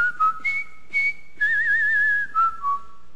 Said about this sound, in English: And by the end of that show, I could whistle Colonel Bogey's March. Remember that?